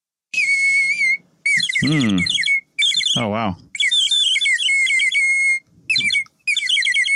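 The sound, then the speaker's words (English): A water-filled whistle blown in several bursts, its high tone warbling and trilling in a bird-like way, with a brief exclaimed voice between phrases. “Okay, now I put the water inside. Okay. And listen the modulation of the sound.”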